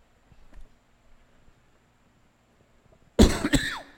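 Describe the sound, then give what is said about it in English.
After a few quiet seconds, a person in a church lets out two sharp morning coughs in quick succession, loud and raspy, with no talking. “My morning cough.”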